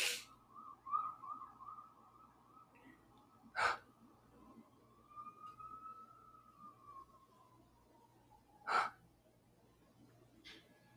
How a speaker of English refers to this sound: Fucking, no, bitch, I yawned.